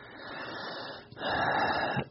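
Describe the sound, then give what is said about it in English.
A long, deep breath with no talking: a steady airy inhale of about a second, a brief pause, then a louder, fuller rush of breath that cuts off abruptly. “You heard me take a deep breath because it's easy to talk about on the phone in an interview, and it's harder work to do week in and week out.”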